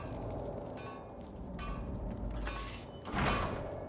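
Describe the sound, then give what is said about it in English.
A door scrapes and rumbles, then shuts with a loud thud near the end, over a steady low background rumble. No one speaks. “I hit him with Fury and I closed the door.”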